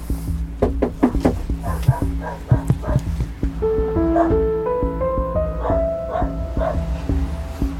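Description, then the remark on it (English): A dog barks loudly in a rapid string of sharp woofs for a few seconds, then shifts to drawn-out, wavering whines and yelps. “Hi, dog.”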